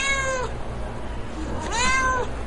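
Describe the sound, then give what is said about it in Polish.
A cat meows twice at an event with many animals, including cats of various breeds: a long steady high-pitched mew followed after a pause by a rising-then-falling one, over a low background rumble with no one speaking. “Córka to głównie dla kotów tu przyjechała, więc różne rasy, bardzo ciekawe, bardzo ładne, także mogła się nacieszyć kotami.”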